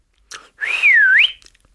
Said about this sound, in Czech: Odpověděl Tupo a znovu zapískal.